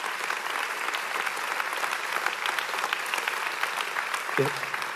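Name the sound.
audience clapping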